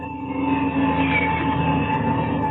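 A propeller airplane engine starting up, a loud, steady mechanical roar with droning tonal hums and a rattling texture that holds at an even level throughout, with no voices.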